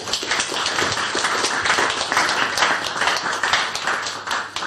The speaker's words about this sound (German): Also also ich finde, egal was jetzt noch kommt, dieses Plädoyer für diesen Fliegendier oder für diesen Vogel hat erstmal einen richtig fetten Applaus verdient.